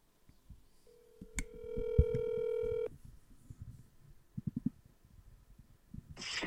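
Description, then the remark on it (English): A phone being dialed to make a call: a steady electronic tone holds for about two seconds with a sharp click partway through, followed by scattered low thumps and handling noise. “I got to call Pooh Bear.”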